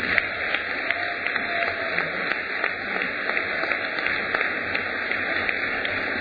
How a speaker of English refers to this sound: You're clapping for you, you know. That's who you're clapping for.